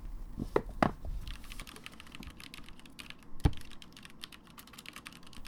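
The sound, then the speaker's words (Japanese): Scattered files from a desk being tidied are slid back onto a shelf with a couple of soft thuds and knocks, surrounded by a steady patter of small clicks and rustles from handling. No one speaks. “まずはこの散らかったファイルを棚に戻しますよ。”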